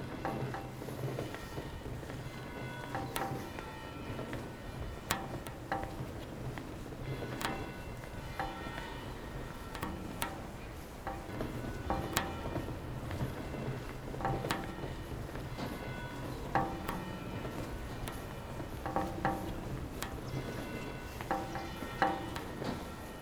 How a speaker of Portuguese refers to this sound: Nós, deste lado, dobramos a esquina para atravessar ordeiramente no semáforo e para ouvirmos o seu apitar crepitante.